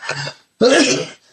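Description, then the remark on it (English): Two harsh, breathy coughs a moment apart, the second louder and more abrupt, with a brief rasp trailing after; no talking. “Still got this cough, sorry.”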